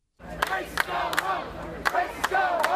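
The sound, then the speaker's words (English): A crowd shouts together in a loud, rhythmic chant, voices rising in repeated bursts with sharp accents, continuous. Protesters on the UNC Chapel Hill campus yell "Racists, go home" near where the Confederate statue Silent Sam stood, surrounding a few men carrying Confederate battle flags. “The crowd is yelling, "Racists, go home."”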